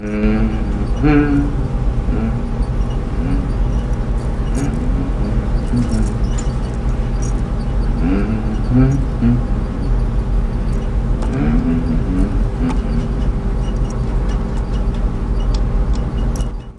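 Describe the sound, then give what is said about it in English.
A prison bus engine rumbles low and steady as the bus pulls out of a station car park in dim daylight and drives along, with a voice speaking over the continuous road noise throughout. “The prison bus pulls out of the station car park in dim daylight.”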